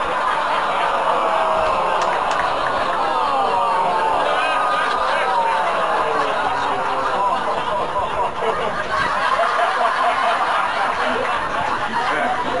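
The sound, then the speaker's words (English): A large crowd yells one drawn-out name over and over, a low sustained roar that sounds much like booing. It stays loud and dense for the whole stretch, with no single voice standing out. “They're just yelling for …. They're not booing”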